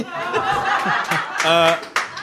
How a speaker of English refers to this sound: Yay, you read books. That's what that was. That was a great round of applause.